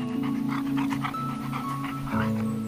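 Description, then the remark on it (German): A golden retriever mother dog pants quickly and steadily while a woman strokes her head, short breathy huffs repeating in a brisk rhythm over a sustained tonal background, with no one speaking. “Und auch die Goldie-Mama scheint durchaus angetan zu sein.”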